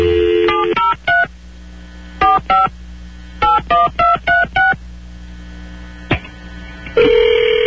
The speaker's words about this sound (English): You just got to dial at random